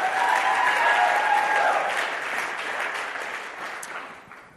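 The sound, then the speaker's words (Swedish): A crowd claps steadily in a sustained burst of applause, loud at first and gradually thinning out as it fades toward the end, with no one speaking over it. “Ja, ge en applåd om du tycker det.”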